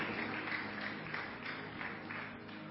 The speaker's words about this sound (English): Give Jesus a big, big hand clap. Please be seated.